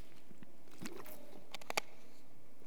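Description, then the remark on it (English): Someone takes a sip of water and swallows, producing a few soft wet mouth clicks and gulps in otherwise quiet surroundings, with no talking. “I'm going to have to grab a sip of water from time to time.”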